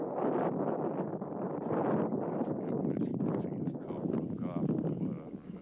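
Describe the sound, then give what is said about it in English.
Wind buffets the microphone in a loud, continuous rumbling roar that persists for several seconds, with a person talking underneath the gusty noise. “A little windy there?”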